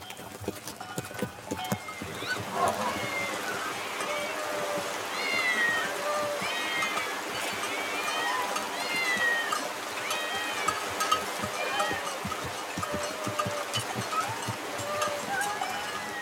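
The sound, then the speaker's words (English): Several cats meow over and over in the Egyptian town of Bubastis, whose people worship a cat god, their cries overlapping in a steady chorus, while hooves clip-clop amid a busy background murmur. “Why are there so many cats here?”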